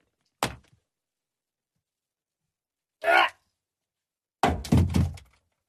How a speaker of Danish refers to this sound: Jeg skal lige slå hovedet ned i gulvet 2 sekunder.